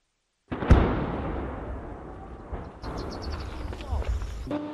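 A sudden booming explosion in Ukraine's southeastern Zaporizhia region bursts out, then rolls into a long, low thundering rumble that lingers in the background, with further muffled rumbling and faint outdoor noise following.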